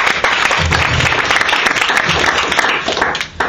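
A debate audience applauds steadily, the dense patter of many hands clapping filling the whole stretch at a loud, even level before easing slightly near the end, welcoming the speaker arguing against, from Queen Elizabeth. No one speaks over it.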